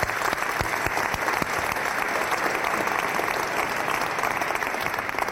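Sustained applause from a sizeable audience fills the room, a dense, steady patter of many hands clapping at even loudness for several seconds with no talking over it.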